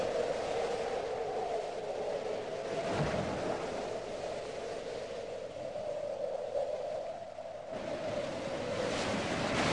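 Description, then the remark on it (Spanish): Steady, rushing surf of sea waves against a steep, rugged rocky coast in the north, a continuous roar with gentle surges rising and falling, alone without any voices. “En Teror, y seguimos en el norte, ya tenemos nuevamente el mar, casonas balconadas y un santuario.”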